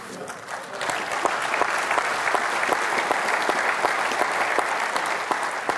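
A crowd bursts into sustained applause with scattered cheers, a dense, steady wash of clapping that swells after the first second and holds loud throughout.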